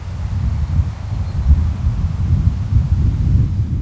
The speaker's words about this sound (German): Dann lässt sich die friedliche Stille in dieser schönen, offenen Landschaft besonders gut genießen, wenn nur das Meer rauscht und der Wind durch die Gräser streicht.